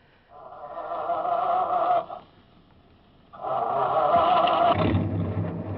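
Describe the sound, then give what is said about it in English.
A truck engine cranks with a strained whine, pauses, then cranks again and catches into a deep, steady idling rumble, loud, with no one talking. “I will take a chance on the confusion and grab that first truck.”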